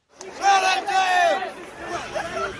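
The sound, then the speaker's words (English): A crowd of students shouting and jeering as they disperse after an encounter at the Lincoln Memorial, with loud overlapping raised voices and drawn-out yells rising and falling over a steady babble for a few seconds. “And there's many more moments after this, but there's one in particular, because as the students finally dispersed, there was many more shouts and jeers.”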